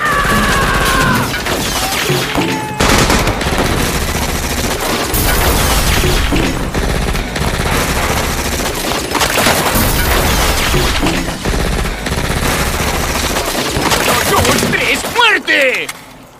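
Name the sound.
gunfire volley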